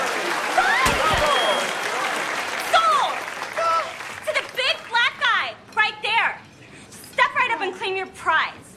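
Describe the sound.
An audience applauds loudly for a few seconds with scattered cheers, then the clapping fades as a voice begins speaking in short bursts.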